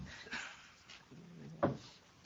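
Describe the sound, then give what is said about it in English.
A door swings shut with a low creak and a single sharp thump during a public meeting. “The door is closed.”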